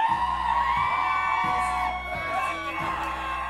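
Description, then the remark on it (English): A large audience screams and cheers at full volume, calling for one more song, a sustained roar of many voices over a pulsing low-end beat, loud throughout. “All right, they're all outside, so you gotta scream as loud as possible so they hear you.”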